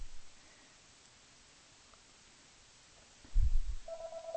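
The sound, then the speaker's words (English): A telephone starts ringing near the end, a steady electronic tone cutting in after a low thump, over faint background hiss with no one talking. “Oh, you want to answer the phone”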